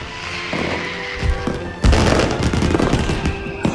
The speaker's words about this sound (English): She looks up, smiling toward the colorful explosions.